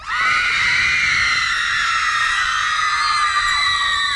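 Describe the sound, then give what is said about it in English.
A screaming machine, set off by a push button, plays a dense, sustained roar of high-pitched screaming that stands in for a teenage audience, loud and continuous for several seconds with no talking over it. “I got a screaming machine right here. Yeah? It replaces a teenage audience.”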